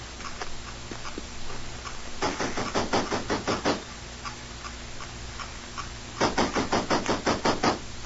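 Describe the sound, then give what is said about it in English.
Knocking on the side door of Tashar Shung's house on the Feast of the Lanterns comes in two separate bursts of about seven quick, sharp raps each, with a pause of a few seconds between them over a faint low hum. “Come on, we'll knock at the side door of Tashar Shung's house.”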